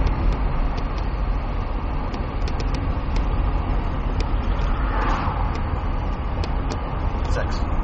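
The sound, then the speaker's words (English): A steady, low rumble of cars on a mountain road, continuous and fairly loud, with no distinct individual pass-bys, as cars fly down the mountain to meet at a car meet. “That's a car meet or something. Those people who are flying down the mountain, they're meeting right there.”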